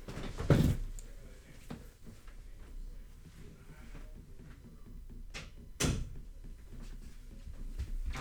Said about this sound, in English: So, hold on, let me close this door.